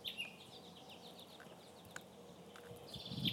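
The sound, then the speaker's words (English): Faint birdsong on a sunny spring day, a run of quick repeated chirps followed later by a brief higher whistle, over a soft outdoor background hiss. “I love being here in weather like this, when it's springtime and all the birds are singing.”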